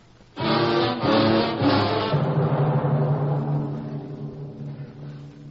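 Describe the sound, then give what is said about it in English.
A car motor starts abruptly and hums steadily with a low, layered drone, its pitch holding even before slowly easing off and fading. No voices are heard. “The motor hums in a vast silence.”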